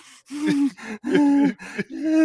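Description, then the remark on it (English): A man imitates his own raspy, nasal breathing from a nasal rasp: four heavy, wheezing breaths in quick succession, fairly loud, with no talking. “realised they had like a nasally rasp down my nose, so I was breathing like.”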